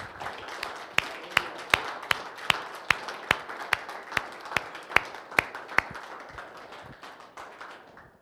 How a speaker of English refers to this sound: And I know you guys aren't one for applause, but let's stand up and give them a standing ovation for their faithfulness to the Lord.